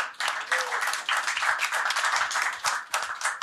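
A short round of applause from a small group, steady dense clapping at moderate loudness that keeps going for a few seconds without any talking.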